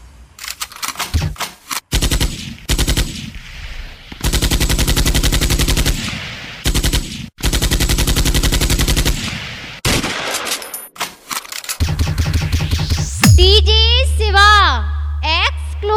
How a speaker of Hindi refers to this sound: बंदूक उठाकर गोली चलाना भी जानता है। मार गोली।